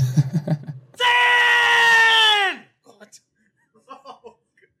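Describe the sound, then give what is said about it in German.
A loud, piercing scream holds steady for about a second and a half before breaking off, preceded by brief voices and followed by faint, scattered sounds. “Aua. Das war laut. Also, wie man hört, es wird sehr viel geschrien in Crank.”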